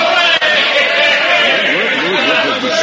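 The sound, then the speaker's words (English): A crowd gathered on a train station platform cheers and shouts to welcome an arriving passenger, a dense, loud wash of many overlapping voices yelling at once without pause for about three seconds. “What's this crowd for? It's for you, Uncle Joe. They came down to greet you.”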